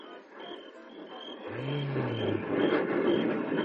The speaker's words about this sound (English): It's a jet. It must be the newest Night Fighter. I wonder where he's going.